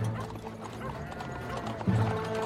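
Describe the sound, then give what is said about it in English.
Hooves clip-clop steadily alongside rattling, creaking wheels of a horse-drawn coupe arriving in a village in daytime, then slow to a stop as a horse snorts; moderately loud, with no voices. “A horse-drawn coupe arrives in the village and halts.”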